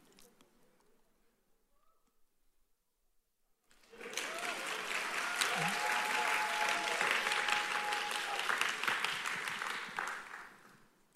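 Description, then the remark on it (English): After a few seconds of near silence, a church audience breaks into loud, sustained applause for the speaker's wife, a dense wash of many hands clapping that holds steady for about six seconds before tapering off. “I'm not asking for the rest of applause, but but I come to a recent realization that I'm able to contribute in different capacities”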